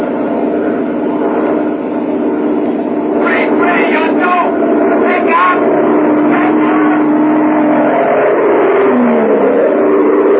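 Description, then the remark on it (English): An airplane engine roars loudly and steadily throughout, a thick droning rumble with whining tones that shift and bend as the power builds during the climb, as the pilot takes the plane back into the sky after a failed approach to Tempelhof and heads back for Wiesbaden. “Why, the pilot took his plane back into the sky after the approach failed and headed back for Wiesbaden, 300 miles away in the American zone.”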